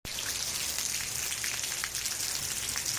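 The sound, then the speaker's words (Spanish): Heavy rain pours down steadily over a city, a dense, constant hiss with scattered drops spattering, continuous from start to finish with no voices; about 35 litres per square metre have fallen in just a few hours. “Pues sigue lloviendo.”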